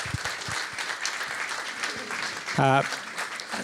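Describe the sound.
A crowd claps steadily in dense, continuous applause, with a brief tonal voice or whoop cutting through around the middle.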